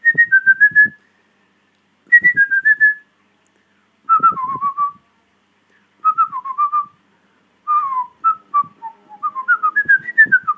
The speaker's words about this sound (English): Further to the tweet I just left about the underground level music from Mario Brothers, I was whistling this.